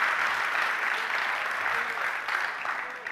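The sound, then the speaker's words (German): A large audience claps steadily and loudly throughout for the youth leaders, a dense, continuous wash of applause with no pauses, filling the whole stretch. “können wir all den Jugendleitern mal einen riesen Applaus geben für diese Woche, weil die waren unglaublich.”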